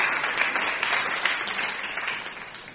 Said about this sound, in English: Give yourselves a very big clap and everybody else.